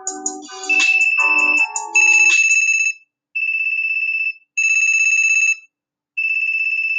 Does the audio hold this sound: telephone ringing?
yes